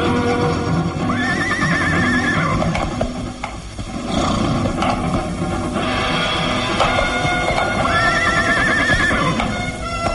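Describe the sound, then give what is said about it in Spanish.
In a castle courtyard, a saddled horse is led by its reins toward another horse: a horse whinnies loudly twice, high wavering neighs, while hooves clip-clop steadily underneath in an uneven walking rhythm, with a brief lull in the middle; no one speaks. “Lucas Van Doren ha ensillado otro caballo y jalándolo de las riendas avanza en dirección hacia su corcel detenido en el patio del castillo.”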